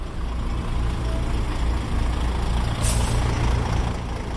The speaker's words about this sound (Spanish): Divide a Paiporta por la mitad. Hasta el 29 de octubre tres puentes la cruzaban. Un mes después, uno de esos puentes recibe decenas de camiones al día.